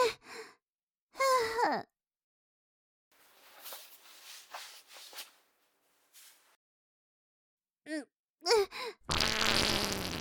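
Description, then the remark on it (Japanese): Several sighing, groaning vocal sounds with quieter breathy rustling between them, then a loud, raspy fart at home bursts out and rumbles on for about a second at the end. “家でもないとこんなに思いっきりおならできないわ。”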